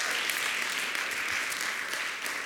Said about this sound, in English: Give him a hand clap of praise today.